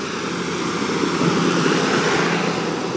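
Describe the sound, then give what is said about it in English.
A convoy of farmers' tractors in North County Dublin rumbles past, their engines making a loud, steady, continuous drone with no pauses and no voices. “So it seems like the whole of the agricultural community of North County Dublin is out in force on their tractors.”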